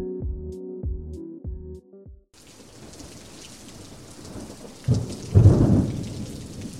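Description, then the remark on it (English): After a few seconds of short pitched notes, steady heavy acidic rain pours in with a dense hiss, and deep thunder rumbles swell twice near the end, the second louder and longer. “Now, let's head outside and carefully approach the acidic rain.”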